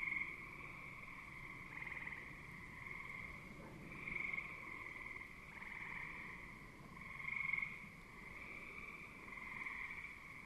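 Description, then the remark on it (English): A dense evening chorus of frogs by a pond: gray tree frogs trilling, bullfrogs singing low tones and green frogs plunking occasionally, many voices together in a steady, continuous wash that swells louder every few seconds, with no one speaking. “not too far from a pond where the gray tree frogs are trilling and the bullfrogs are singing their low tones and the green frogs are plunking away occasionally.”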